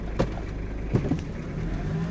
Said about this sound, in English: Captain Jerry Lee Wood grinds his Toyota truck up the steep dirt incline at Combat Outpost Wilderness.